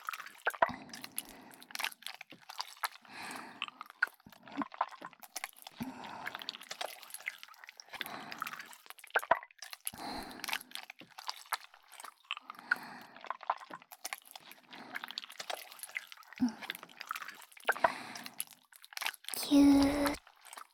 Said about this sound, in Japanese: 私の手の中でいやらしく形を変えてますよ。ぐっちゅぐっちゅ。